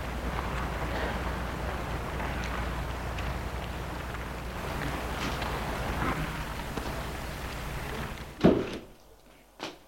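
A door is unlocked and pushed open with a sharp, close clunk near the end, after a long stretch of steady hissing outdoor noise; the background drops quieter once the door opens.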